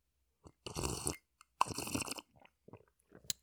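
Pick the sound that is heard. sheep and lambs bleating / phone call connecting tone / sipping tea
sipping tea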